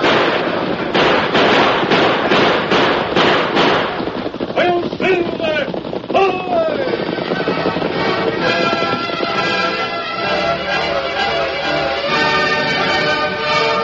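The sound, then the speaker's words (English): A sheriff's posse's gunfire crackles in a rapid, irregular volley of sharp, loud shots, with voices shouting over it before steady music takes over. “Bring out your guns, boys. Nail him.”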